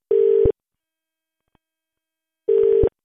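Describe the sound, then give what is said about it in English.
A ringing tone of a call to a mobile phone: steady electronic tone bursts, each about half a second long, separated by two seconds of silence, with a third beginning at the end. Clear, with no voices. “Who we got on our mobile phone?”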